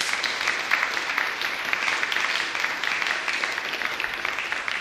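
Sustained applause from an audience in a church, given in thanks to the person who decorated the altar: a dense steady patter of many hands clapping at an even loudness for several seconds, with no voices rising above it.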